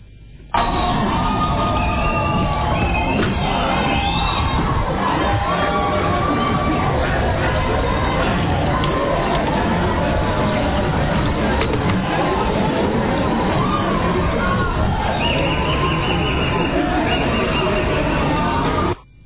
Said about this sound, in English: The courtroom erupted in wild applause after the judge announced the sentence.